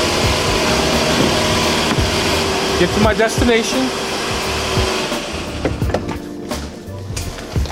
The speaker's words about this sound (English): In order to activate the system, you're going to hit lock 1, 2, 3 times, and you'll see the vehicle start. So now the car started.